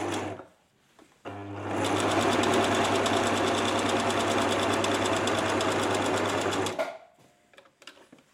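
A sewing machine whirs steadily for about five and a half seconds, a loud, even mechanical rattle with a low hum, starting and stopping abruptly with quieter moments around it.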